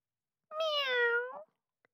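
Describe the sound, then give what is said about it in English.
A single drawn-out meow from a pet house cat, clear, rising slightly then falling over about a second, followed by silence and a faint tiny click. “It was our cat.”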